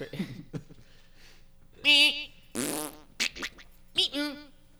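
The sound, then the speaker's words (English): A voice imitates fart sounds: a few loud, buzzy, sputtering bursts mixed with squeaky whistle-like noises, separated by short pauses. “And bird and weird shit, fart sounds.”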